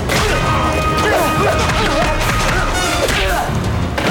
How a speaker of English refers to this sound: Neil slams Bly into the wall. They trade blows.